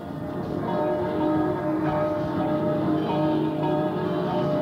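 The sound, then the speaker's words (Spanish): The bells of nearly 40 churches in Seville, Spain ring together in a dense, continuous celebratory peal on the opening day of Expo 92. Their overlapping metallic tones blend into a loud, resonant wash from several directions at once, with no talking. “Están repicando ya las campanas de Sevilla, las campanas de más de cerca de 40 iglesias sevillanas repicando a gloria en esta jornada de la inauguración de la Expo 92.”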